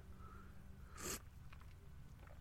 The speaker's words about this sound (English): So, quick slurp of coffee.